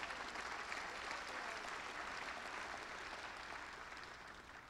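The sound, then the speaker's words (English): A church audience breaks into sustained applause during a sermon, a dense wash of many hands clapping at a steady level for several seconds, slightly tapering toward the end with no voices standing out. “Now, yeah, go ahead, clap.”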